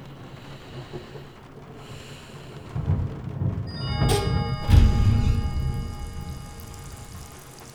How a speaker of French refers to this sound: Le lit était confortable, et le bruit des gouttes de pluie sur la fenêtre me berça.